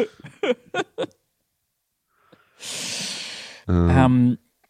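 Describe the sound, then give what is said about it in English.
A voice imitates the noisy way a child sniffs in to smell something: a few brief spoken syllables, then a long, noisy inhale through the nose followed by a harsher, buzzy snort. “Yeah, that's how one of my kids sniffs in.”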